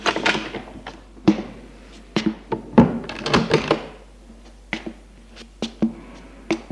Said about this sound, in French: La porte s'ouvre.